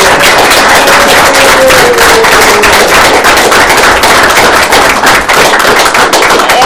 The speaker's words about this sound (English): Can we have a round of applause for our teachers and counselors? Well, certainly we can.